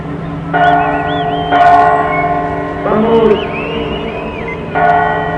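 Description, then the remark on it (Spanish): Church bells ring out in a series of strong, resonant strikes as an inauguration is about to begin, their tones overlapping and sustaining, with a faint murmur of crowd noise underneath. “Cuando vamos a inaugurar, empezaron a tocar las campanas, pues casual siempre lo hacen, camaradas.”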